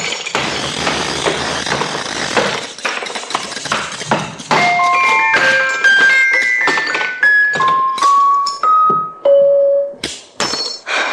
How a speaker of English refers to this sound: Is this a habit of yours, breaking up music boxes? You don't know how many I've broken up in the last week.